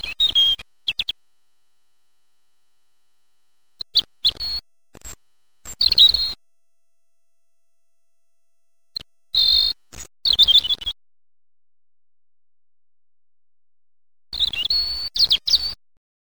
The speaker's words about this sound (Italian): Il pettirosso.